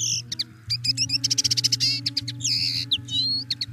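A small seed-eating bird gives its flight call, two notes repeated insistently as quick, bright chirps in rapid succession, clear over a steady low hum in the background.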